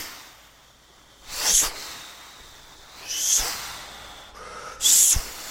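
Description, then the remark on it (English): Three heavy, breathy swishes, like brushes dragged hard across a snare, spaced about two seconds apart, each a short hissy burst rising out of a faint background, with no talking. “it's kind of like brushes brushing heavily against a snare, which is.”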